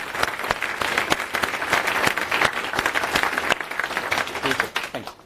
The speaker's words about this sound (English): So a round of applause on that side.